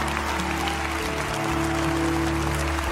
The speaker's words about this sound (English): Come on, Lakewood, let's give them a hand clap. as they stand all over the building.